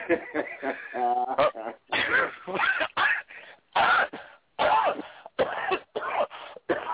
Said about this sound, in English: I would not be coughing like that with the girls on the phone.